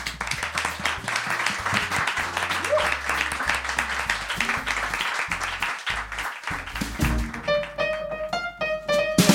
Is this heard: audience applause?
yes